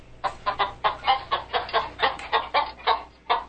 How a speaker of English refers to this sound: All right, enough with the chicken. You don't want to hear it. I didn't want to hear it. You were fooling around with chicken sound effects.